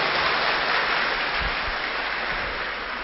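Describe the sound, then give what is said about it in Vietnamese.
Dense, steady applause from an audience praising the students at the end of a three-hour session, a continuous wash of many hands clapping at once that fades slightly toward the end, with no voices. “Và hôm nay các bạn rất là ngoan, thầy cho một tràng pháo tay tán thưởng các bạn.”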